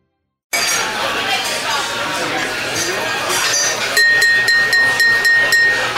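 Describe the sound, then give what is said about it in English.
Glasses clink together in a toast, a quick run of bright chimes with a lingering ring, over the busy murmur of a crowd chattering in the background. “Everyone, please, raise your glass with me.”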